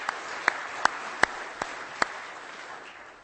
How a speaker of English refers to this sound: And not to take anything away from your brother, but I almost feel like that deserves a solid round of applause.